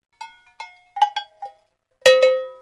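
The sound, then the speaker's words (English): Metal animal bells, made for animals such as bullocks, draft horses, sheep, goats or cows, ring with no one talking: five light, bright clanks with short decaying tones, followed by a louder, fuller clang that rings on with rich overtones. “The bells were designed for different animals.”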